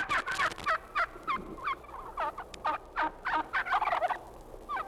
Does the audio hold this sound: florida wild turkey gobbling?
yes